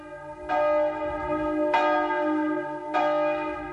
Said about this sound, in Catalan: Quan van parar de tocar les campanes, va haver-hi un moment de silenci i des de l'altre front, com si fos un senyal, va contestar un alegre i al mateix temps aixordador repic de campanes. Feia més o menys així.